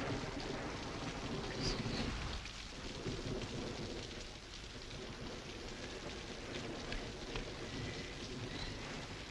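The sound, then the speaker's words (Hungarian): A thunderstorm in a forest: steady, heavy rain pours down throughout, with a deep rolling rumble of thunder in the first couple of seconds that fades into the continuous hiss of the downpour. “Ilyen viharban hogy került az erdőbe?”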